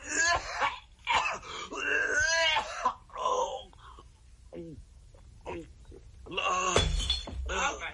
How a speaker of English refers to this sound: He knocked over the pitcher.